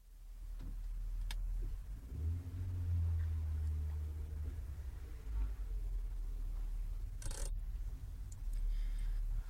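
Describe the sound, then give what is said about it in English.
A large car's engine rumbles steadily at low speed, its hum rising and easing as the car slowly reverses toward the curb, with a couple of sharp clicks breaking through partway along. “Your reversing's fine.”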